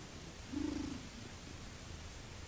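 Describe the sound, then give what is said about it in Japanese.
A cat named Simba purrs softly, a low rumbling burst lasting about half a second, heard over a steady hiss of background noise with no one speaking. “シンバ君がゴロゴロ言ってます。”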